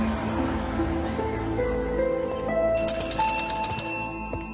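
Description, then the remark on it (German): A telephone bell in a home rings out clearly partway through, its bright metallic tones ringing over a steady, humming background that fills the whole clip. No one speaks. “Alain Meuniel kam gerade nach Hause, als das Telefon anschlug.”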